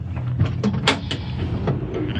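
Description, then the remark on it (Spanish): A door leading to the garden of an estate is pulled open, a low creaking groan mixed with a few sharp clicks and knocks over a steady background rumble, with no voices. “Cruza hacia la puerta que conduce al jardín.”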